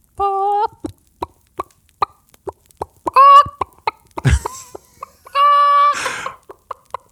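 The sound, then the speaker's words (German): A person's voice mimics a chicken: a steady run of short clucks punctuated by three longer, drawn-out squawks, with no talking alongside. “Achso, wahrscheinlich dachte ich, das wäre ein Huhn irgendwo um die Ecke.”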